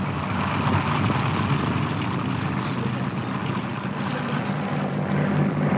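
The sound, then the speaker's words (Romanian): A small propeller airplane drones steadily and loudly, its broad engine roar holding constant with slight shifts as it banks through a turn. “Acum trăznește avionul de pământ. Manșa, manșa, băiatule. Așa. Uitați-vă ce viraj.”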